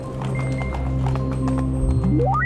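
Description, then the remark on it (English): Horse hooves clip-clop in a steady, even rhythm at moderate volume, over a sustained droning tone, with a sharp rising sweep near the end. “Horses, betting.”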